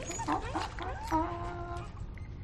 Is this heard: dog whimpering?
yes